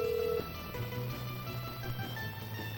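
Telephone tones over a line: a brief higher beep, then a steady, low buzzing tone that drones on as the call rings through, with no voices.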